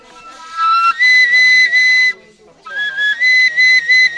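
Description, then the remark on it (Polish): A homemade Lenten whistle, made at a workshop from PVC pipe with insulating tape, string and pieces of wood, plays shrill, steady tones in two bursts separated by a brief pause, each stepping up in pitch partway through. No voices are heard. “Właśnie kończymy wykonywać piszczałki wielkopostne.”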